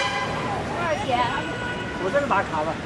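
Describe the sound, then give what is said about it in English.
Steady, noisy rumble of the crowded number 113 city bus moving through traffic in Chongqing, China, on a long, hot hour-and-a-half ride home from work, with people chattering throughout and short horn toots sounding from the street outside. “And that explains how I came to be riding the number 113 Chongqing City bus on a long, hot, sweaty hour and a half ride home from work the other day”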